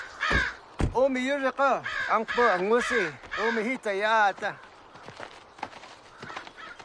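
bird, crow cawing

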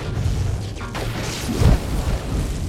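nature, lightning strike crash

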